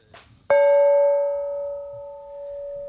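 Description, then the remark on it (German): A single bright gong is struck once and rings out with a long, clear, sustained tone that slowly fades, preceded by a brief soft rustle. “Ich finde, der Gong klingt auch schon feierlich, ne?”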